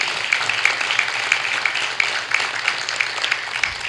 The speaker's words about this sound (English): Yeah, a little round of applause to them.